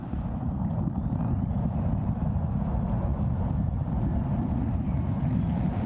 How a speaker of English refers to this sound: SpaceX launching its massive Starship rocket into space.